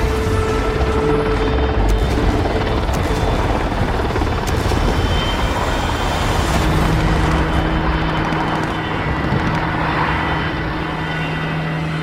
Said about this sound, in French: Vers 23h, Nesroula part se coucher et il s'endort avec le bruit du moteur d'un hélicoptère qui sillonne le ciel.